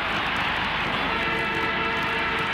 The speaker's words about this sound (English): There's the siren. Melbourne wins 8-16-64 to Collingwood's 8-12-60.